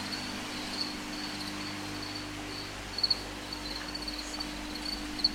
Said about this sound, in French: Les grillons, c'est par là, c'est ça? Les grillons étaient là, mais il y en a là aussi. Il y en a là.